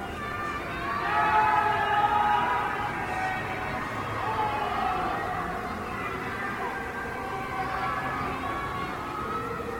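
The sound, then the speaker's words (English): Many people locked in their homes by Chinese authorities scream and wail at once from high-rise apartments in Shanghai, a continuous, overlapping chorus of high, drawn-out cries that rises and falls without pause and holds no clear words. “screams of people from high-rises in Shanghai locked in their homes by Chinese authorities.”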